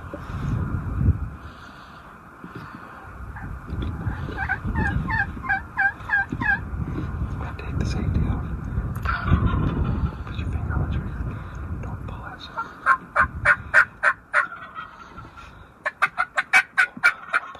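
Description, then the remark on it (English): A big tom turkey gobbles repeatedly in rapid bursts as a hunter calls it in toward a decoy, the calls growing louder toward the end, over a steady low rumble of wind or engine noise with some faint murmuring voices. “I have my back turned to this whole scenario because I got my back up against a tree, and this bird's coming in from behind me, but they can see everything.”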